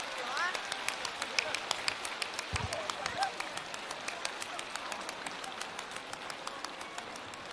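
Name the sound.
warm applause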